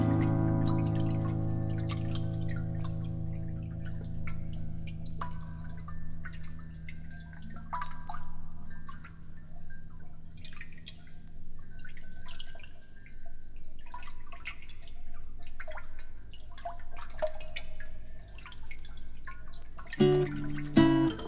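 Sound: water dripping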